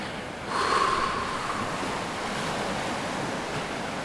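Ocean waves wash onto a beach in a steady, broad rush of surf, swelling louder after a quieter start and then holding at an even, continuous roar with no voices.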